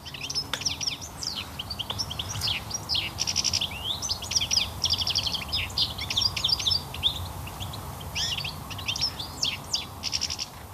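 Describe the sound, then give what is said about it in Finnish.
A European goldfinch in Finland sings a rapid, continuous stream of bright, tinkling twitters and trills, steady throughout, over a faint low outdoor hum. “Tikli on Suomen värikkäin lintu monen mielestä. Niin, sen myös näkee ja kuulee entistä useammin.”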